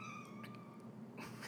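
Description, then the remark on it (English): A cat lets out a soft, drawn-out meow, faint, with a hint of a whiny, wavering tone. No one speaks over it. “Sorry, my cat just meowed a little bit.”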